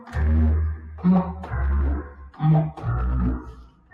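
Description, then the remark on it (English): Humpback whale calls: a run of low, groaning moans and higher wavering cries, several in close succession, loud and resonant with no talking. “And then some humpback whales.”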